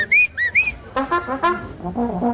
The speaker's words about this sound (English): It's a bugle call or a band call to assemble. It's like, come on, rally, come to the bandstand and be ready to do it. Let's go. It's a secret musician's call. Don't tell anybody I told you that. We either whistle or we play that on our horn.